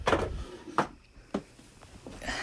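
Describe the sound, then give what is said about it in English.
A drawer slides open with a scraping burst, followed by a few sharp knocks and clatters of objects being shuffled around inside, fairly loud, with no one talking. “I'm grabbing something from the drawer.”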